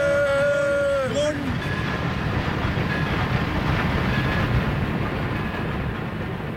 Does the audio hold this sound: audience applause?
no